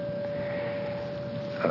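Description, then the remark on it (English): A bell's clear, steady ringing tone hangs throughout, holding one mid pitch without fading, and a fresh brighter strike sounds just before the end. No one speaks. “I could also get lost in my interpretations of, that was a beautiful sound of a bell, and I wonder where I can buy one of those bells.”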